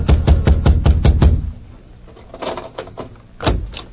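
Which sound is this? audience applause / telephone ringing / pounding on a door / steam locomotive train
pounding on a door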